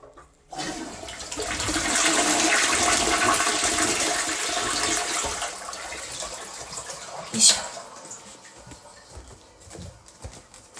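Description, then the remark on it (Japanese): A toilet flushes with a loud, sudden rush of water that swells for several seconds, then gradually subsides into a gurgling trickle, with a brief clunk partway through as the tank refills. “じゃあちょっと流しますね。うるさくなります。”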